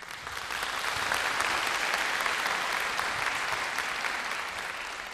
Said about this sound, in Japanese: 先ほどから大きな拍手をいただきましたが、私どもこの拍手はアンコールをやれというふうにおっしゃってるんだと勝手に解釈いたしまして、今からあと2曲、お聴きいただきたいと思います。